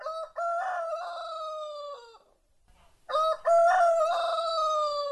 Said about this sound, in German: Da ist ja ein Hahn. Guckt ihn euch an. Oh, entschuldige, ich habe vergessen. Ihr könnt da ja nicht gucken. Aber hört ihn euch an.